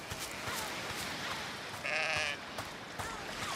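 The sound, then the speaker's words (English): Sheep bleat a few times over a steady outdoor hiss, with one louder, drawn-out wavering bleat in the middle and softer calls around it, as someone tries to herd them. No one speaks. “I'm not good at herding sheep, man.”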